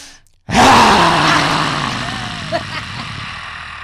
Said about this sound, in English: And then we're going to add the sound is a deep guttural growl. So as you go back, you breathe in.